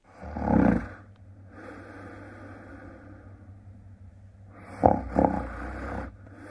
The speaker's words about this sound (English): That's right. Someone snoring. That ended up apparently 26th, the 26th worst sound in the world out of the different sounds that our guest put up on the internet survey to find out why certain sounds are so objectionable.